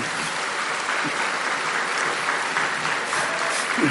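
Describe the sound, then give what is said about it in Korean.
Steady, dense applause from a large crowd for the Ulsan Church choir, a continuous wash of many hands clapping at even loudness throughout, with no voices standing out. “다시 한번 울산교회 합창단에서 큰 박수 부탁드리겠습니다.”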